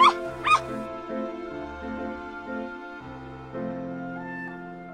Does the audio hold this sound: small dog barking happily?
yes